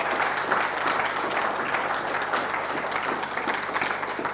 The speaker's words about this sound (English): I'm going to ask you to remain standing. You can give them a clap. Yeah, give them a clap.